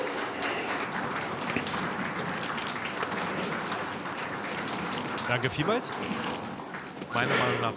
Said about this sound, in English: So please, have a warm applause.